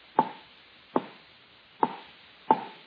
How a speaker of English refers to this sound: But in all this fog, I guess I picked a pretty big one, didn't I? You sure did. You just chopped down the only telephone pole in Burbank